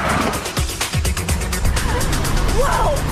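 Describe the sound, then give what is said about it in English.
A brown car skids to a halt on a rough, steep track: a steady, rough rumble with crackling bursts of gravel, then a brief wavering squeal of tires near the end. Moderately loud throughout. “The brown car skids to a halt.”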